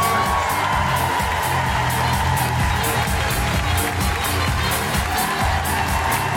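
An audience at The Fringe claps and cheers steadily as a comedian is welcomed on stage, a dense wash of applause with whoops and shouts rising over it, loud and sustained throughout.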